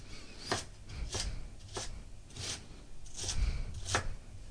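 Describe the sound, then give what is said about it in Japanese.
A knife coarsely minces julienned lotus root for takikomi gohan (mixed rice), the strips laid lengthwise on a cutting board and chopped from the end, in about six steady, crisp strokes spaced roughly half a second apart, clear with no talking. “そしたら今細切りになったレンコンを横長に置いて端から粗みじん切りにしていきます。”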